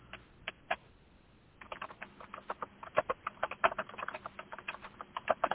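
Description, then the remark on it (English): Loud computer keyboard typing heard in the background of a conference-call Q&A session: a few scattered clacks, a brief lull, then a rapid, uneven burst of sharp key presses continuing to the end, with no voices. “And we're hearing the keyboard in the background. Really loud.”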